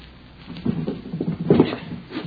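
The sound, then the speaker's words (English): The bottom drawer of a wooden bureau is tugged open with a dry, scraping rattle in a few uneven jerks as it sticks, moderately loud, with no one speaking. “There's something that might interest you in the bottom drawer of that bureau.”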